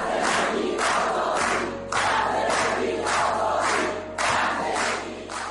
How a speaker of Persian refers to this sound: حمایت از معترضانی که همین یه سال پیش در خیابونای شهرهای مختلف ایران فریاد می‌زدند زن زندگی آزادی.